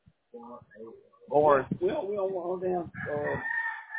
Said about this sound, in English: I heard chickens.